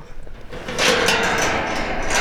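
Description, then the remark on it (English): A long metal gate at the Rick Kelly Performance Horses Ranch is pulled open: a few light rattles, then a loud, steady grinding scrape that carries on for over a second, with no voices. “And after getting to check out the horses from a distance, Allison opens up a long metal gate.”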